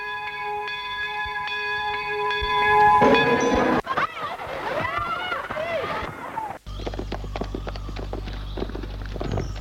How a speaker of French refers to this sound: La cloche de la sortie de 11h30 a retenti.